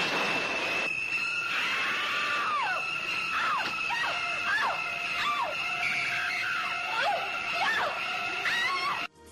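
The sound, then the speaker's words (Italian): Shrill violins stab repeatedly in sharp, descending screeches over a sustained high whine, the shower-scene cue from Hitchcock's 1960 film Psycho, where a woman is stabbed in the shower; it stays loud and piercing throughout, with no talking. “E questo appunto è dove la donna viene accoltellata nella doccia.”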